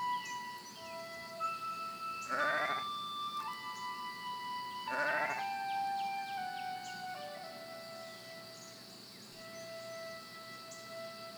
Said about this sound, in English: As you walk along, you notice a herd of sheep in the distance. Some lambs are lying down in the grass while their mothers graze nearby.